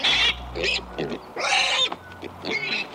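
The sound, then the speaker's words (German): Several sharp, high-pitched pig squeals in quick bursts, loud, with brief pauses between them and softer grunting noises underneath. “Auch ohne viel Technik lässt sich bei diesen Schweinchen erkennen, welche Emotionen gerade durch ihren Körper gehen.”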